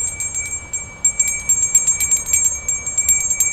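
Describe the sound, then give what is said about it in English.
A hand bell rings steadily beside a Salvation Army red kettle during a fundraiser in Sioux Falls, South Dakota, shaken in quick repeated strikes with a bright, sustained metallic tone, over a low hum of outdoor background noise. “The familiar sound of bells and the sight of red kettles is one of the Salvation Army's largest fundraisers.”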